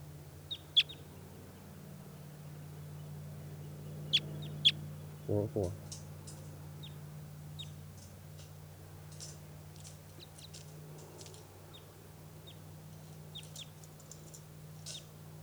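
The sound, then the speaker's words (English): Birds call excitedly, a flurry of short, sharp, high-pitched chirps arriving in irregular bursts and overlapping clusters over a steady low hum, with one brief louder thump partway through; recorded at 4:24 p.m. on June 5th. “And the birds all of a sudden got excited here.”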